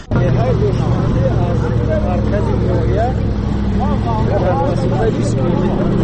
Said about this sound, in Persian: حالا همراه با گروه ساکنان این روستاها در ماشین کلان باربر حرکت داریم و این مردان بار میکشونند به خانه های خود تا زندگی خودشان را تأمین کنند.